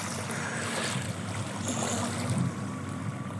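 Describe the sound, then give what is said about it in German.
A steady, loud motorboat engine drone hums low and continuous alongside washing water at a beach, with no voices over it. “Und wenn die den Motor anwerfen, nerven die alle Strandbesucher, weil es so laut ist.”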